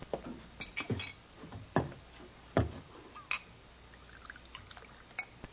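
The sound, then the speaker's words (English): Rye whiskey poured into a glass by a bartender in Brotherton, with a handful of sharp, irregular glassy knocks and clinks over a faint trickle. Quiet overall, with no voices. “Glass of rye, bartender.”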